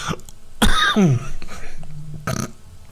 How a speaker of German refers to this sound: Oha, das war aber ein dicker. Jetzt baut er schon die Huster in das Intro ein.